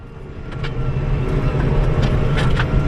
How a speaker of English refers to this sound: Right on the coast at Bridport, a fleet of maize harvesters and tractors zigzag across the paddock. So I'm operating a chaser bin, working alongside a self-propelled forage harvester that is harvesting maize.